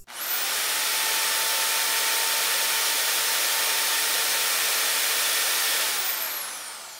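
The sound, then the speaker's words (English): A vacuum cleaner runs steadily for several seconds, a loud, broad whooshing roar with a faint motor whine, starting abruptly and tapering off near the end. No one speaks. “it's just a vacuum cleaner.”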